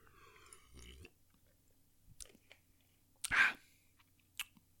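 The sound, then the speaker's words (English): Quiet drinking sounds as someone gulps regular Gatorade sports drink: a few soft gulps and wet mouth clicks, with one louder swallow near the middle and a brief click toward the end. No one speaks. “Let's try the regular one more time.”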